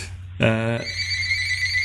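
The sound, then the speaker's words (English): A phone in an office rings with a loud electronic ringtone: a buzzy, harmonic-rich burst, then a steady high-pitched tone that keeps ringing to the end over a low background hum. “Excuse me, I'll just my other phone ringing.”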